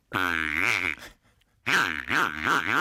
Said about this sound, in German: Da habe ich so ein kleines Gerät, was in so einem Quietschschwein drin war, und das Schwein ist kaputt gegangen. Und dann habe ich innen reingelangt und habe das, die kleine Tröte da rausgenommen, und die klingt dann so.